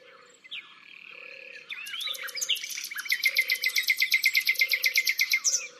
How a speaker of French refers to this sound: Allons écouter le rossignol maintenant. Il est dans la haie qui entoure l'étang. C'est sûrement là qu'il a son nid.